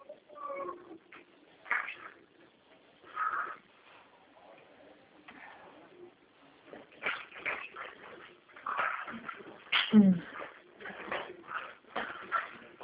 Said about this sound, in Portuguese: Ah, agora é a cachorra. Ô, Mel, o que você quer, Mel? Sua comida tá ali, Mel.